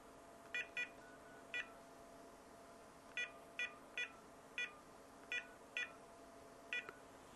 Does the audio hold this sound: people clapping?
no